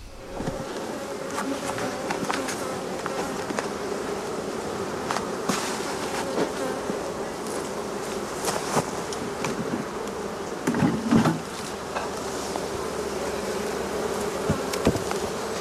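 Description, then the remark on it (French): A steady, dense hum of many honeybees buzzing around a hive at an apiary in Vitry-en-Artois, between Arras and Douai, France, continuous, with occasional sharp clicks and taps punctuating the drone. “la rencontre de Frédéric et ses abeilles du rucher de Vitry-en-Artois entre Arras et Douai”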